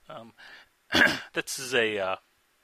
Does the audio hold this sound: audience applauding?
no